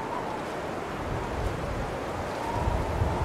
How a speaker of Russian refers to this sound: Вот это хлещет. Вот это ветрище. Тут так-то и сдуть может, наверное.